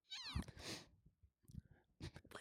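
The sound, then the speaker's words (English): A sneeze winds up with a short, squeaky, voiced gasp and a breathy rush of air, then fizzles out without the actual sneeze. Soft talking follows after a brief pause. “Were you gonna sneeze?”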